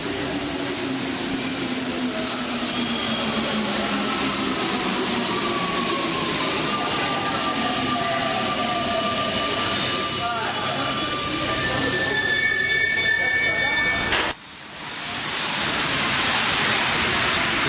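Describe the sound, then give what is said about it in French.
A metro train rumbles loudly along the track, its wheels letting out long, high-pitched squeals that rise and shift, with a brief dropout before the steady roar resumes. “Vous imaginez, vous êtes dans le métro et vous posez la question, qu'est-ce qu'il va nous raconter ce matin avec l'histoire du métro ?”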